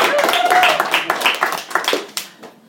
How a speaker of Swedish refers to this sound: Vi ser honom här. Vi kan ge honom en liten halv applåd, tycker jag.